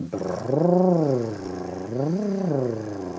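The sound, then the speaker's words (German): A voice makes a buzzing lip trill like a motorboat as a vocal cord exercise, sliding up and down in pitch in two smooth arcs, steady and fairly loud, with no talking. “Die erste Übung, die sie empfiehlt, ist wie ein Motorboot zu machen.”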